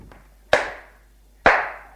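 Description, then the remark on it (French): Two sharp, loud slaps about a second apart as a man slaps another man he has just pulled in through the front door, each a crisp smack of skin on skin that rings out briefly before fading, with no voices. “Il le gifle.”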